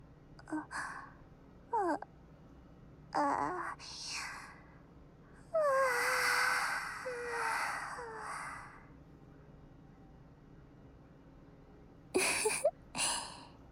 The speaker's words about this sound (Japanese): あら、わあ、大きなあくび。